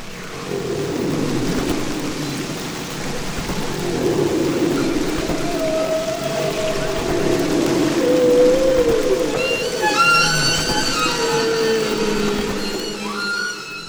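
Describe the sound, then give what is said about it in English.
Humpback whale song: long, sliding moans and rising whistles layered over a constant watery hiss, with a cluster of higher harmonic cries stacking up near the end, all without any speech. “Humpbacks have the longest and most complex songs of all the whales.”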